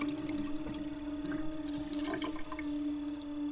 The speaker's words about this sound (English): Well, you did an excellent job of rinsing them off again. Oh, I see what you're up to. It helps me too, you know, to just watch the water flow.